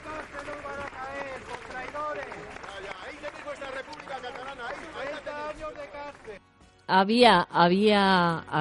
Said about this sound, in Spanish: Había de todo, había aplausos, pero había quien decía, ahí está la cárcel, ahí, ¿no?